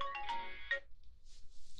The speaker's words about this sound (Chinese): 等一下，我男朋友怎么每次都是这个时候打电话？